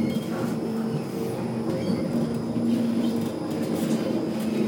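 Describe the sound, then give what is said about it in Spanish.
A tram rumbles steadily with a constant low electric hum and broad rolling noise, holding an even loudness throughout as it comes in to a stop at Westermarkt, the stop for the Anne Frank House museum, with no voices. “Esta parada, la que pararemos ahora precisamente, es donde se encuentra la Casa Museo de Ana Frank, la Westermark.”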